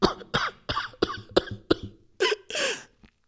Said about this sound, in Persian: مادر با خستگی تمام با چند تا سرفه از جاش پاشد